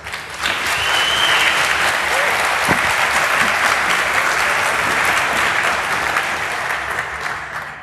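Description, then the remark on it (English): A sustained burst of audience applause for researchers about to present on hidden mobile phone protocols such as SS7, dense and steady for several seconds, many hands clapping at once before tapering slightly at the end. “So a big round of applause for those guys.”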